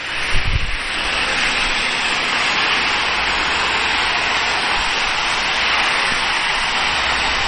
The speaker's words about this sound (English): yep, look at all them cars passing by. I know they are. They never stop. You know. Got a four lane road here, one way. It's like a thoroughfare or something.